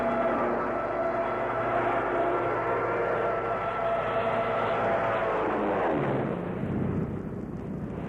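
A loud, steady aircraft engine roar with strong harmonic drone, swelling and then sweeping down in pitch near the end as the plane dives low right over the grass; no talking.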